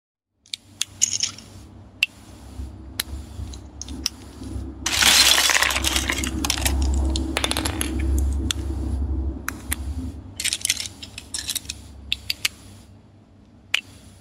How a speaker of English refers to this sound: I also especially like the final track on the playlist, …, because despite still just being made from the sounds of LEGO bricks, it sounds a bit like a crackling campfire.